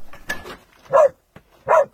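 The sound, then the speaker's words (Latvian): A dog involved in earthquake rescue work barks twice, two loud, sharp barks about three-quarters of a second apart, after a brief patch of scraping, mechanical-sounding noise. “Glābšanas darbos iesaistītas vairākas pasaules valstis, tostarp ne tikai tehnika un cilvēki, bet arī suņi.”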